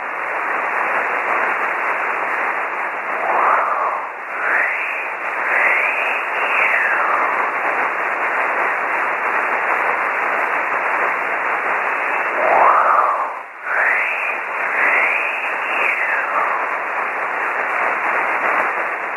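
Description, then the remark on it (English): A faint shortwave broadcast, probably the pirate station Wolf Radio (Wolvesbane Radio), buried in heavy, steady static, with warbling tones sliding up and down through the hiss and no clear voice emerging. “Take one more last listen to this, but this is probably, in all probability, Wolf Radio.”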